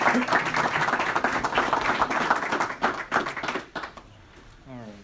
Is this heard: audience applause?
yes